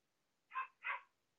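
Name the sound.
dog barking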